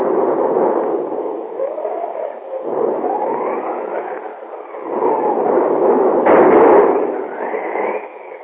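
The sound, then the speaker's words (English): A thunderstorm raging outside a home in Chicago rumbles on without pause, a low, steady roar that swells louder around the middle and again near the end, with no voices. “Outside, a thunderstorm is raging.”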